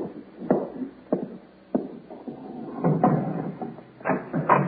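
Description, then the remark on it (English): A house door is opened in answer to a knock: a few sharp clicks of the latch and handle, then a longer scraping, creaking rustle as it swings. No one speaks. “Well, you'd better answer it,”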